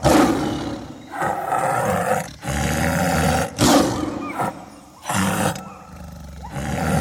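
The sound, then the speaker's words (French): A tiger roars repeatedly in deep, rumbling bursts, each lasting about a second with brief breathy gaps between them, loud with no one speaking. “Le tigre est impressionnant.”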